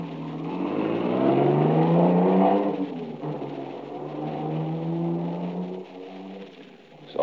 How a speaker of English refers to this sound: They all pile into the car and take off through the village, supposedly after me.